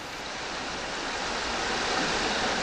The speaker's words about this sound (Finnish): Tämä äänitys on noin 30 metrin syvyydestä ja kuultava kohina on kohtalaisen aallokon murtumista. Aallokkoa murtuu joka suunnassa ja ääni kantautuu useiden kilometrien alueelta.